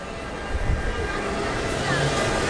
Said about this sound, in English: Lots of traffic here. It's rush hour, actually. People really want to go home, and The noise is incredible always in the streets here.